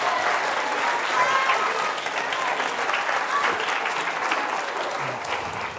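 Sustained applause from an audience, a dense steady patter of many hands clapping at fairly even loudness for several seconds, with faint crowd murmur mixed in.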